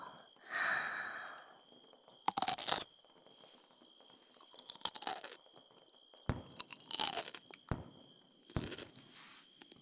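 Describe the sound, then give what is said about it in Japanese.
Crisp crunching of someone biting and chewing fresh cucumber while a bitter taste still lingers, with four or five sharp bursts spaced a couple of seconds apart, preceded by a soft breath and no talking. “そして苦味が若干残っているうちにきゅうりを。”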